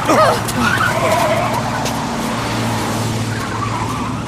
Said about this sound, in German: Fast hätte uns der Lastwagen getroffen. Der musste auch dem Container auf der Straße ausweichen.